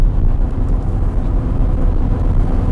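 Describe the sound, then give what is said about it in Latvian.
A car drives steadily downhill through a huge cave-like tunnel into the iron ore mine at Kiruna, on a road built like a town street. Its engine and tires make a loud, continuous low rumble that fills the space without a break. No voices are heard. “Došanās iekšā raktuvēs nozīmē doties ar automašīnu lejup pa milzīgu alu, kurā izbūvēt tādu pašu ceļu, kādas redzam pilsētas cielās.”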